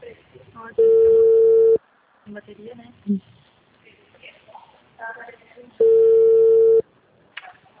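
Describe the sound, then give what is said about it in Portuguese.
An outgoing call rings twice: two loud, steady one-second ringback tones several seconds apart, each a flat buzzing pitch, with people talking quietly in the gaps between them. “telefone. Garganta, só faltava ela não atender.”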